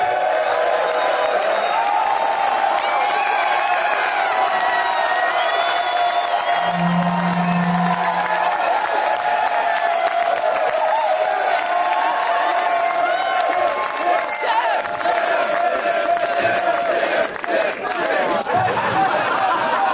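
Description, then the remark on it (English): An audience claps and cheers steadily for the full stretch, a loud, dense wash of applause with scattered whoops and crowd chatter mixed in, plus a brief low hum midway. “Ladies and gentlemen, clap up slash clap for the one and only”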